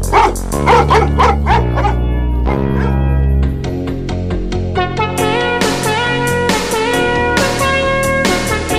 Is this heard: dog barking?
yes